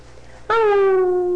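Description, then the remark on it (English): After a brief quiet moment, a man imitating a wolf howl begins abruptly, loud, a single sustained tonal wail that slowly slides lower in pitch and holds until the end. “There, he's doing wolf howl.”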